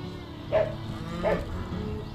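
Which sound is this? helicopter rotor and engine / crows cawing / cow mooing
cow mooing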